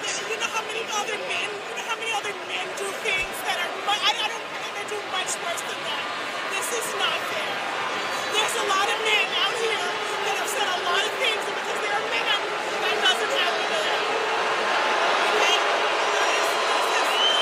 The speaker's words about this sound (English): The crowd getting into it there. Crowd all of a sudden sensing the tension of the match, perhaps.